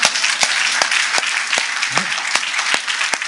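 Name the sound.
audience applauding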